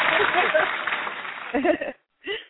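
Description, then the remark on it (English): A burst of canned applause welcoming a guest on a show, a dense, steady crackle of clapping for about a second and a half, then it cuts off and a short spoken phrase follows. “I love the applause, the canned applause.”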